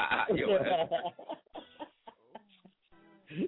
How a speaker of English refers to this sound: You and them damn birds.